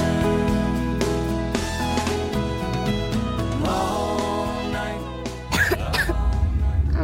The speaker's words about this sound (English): What about my cough? DayQuil Kids has that covered.